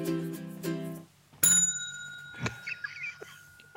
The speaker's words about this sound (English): What would we do without the bell? I just don't know.